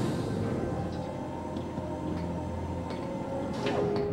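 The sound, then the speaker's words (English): A steady mechanical rumble with a low hum, as the heavy security door to the USS Defiant's bridge on a space station rolls open, marked by a few faint clicks and a brief rising whir near the end. “As the security door rolls back, Kira leads him onto the Defiant's bridge.”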